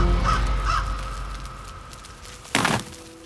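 Two harsh, raspy crow caws in quick succession over a low steady hum, followed a moment later by a short, loud knocking crack.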